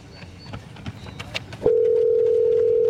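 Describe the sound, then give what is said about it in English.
A few soft clicks and handling sounds, then a steady, loud telephone tone starts and holds unbroken as an outgoing call begins to ring, with no one talking. “It's ringing.”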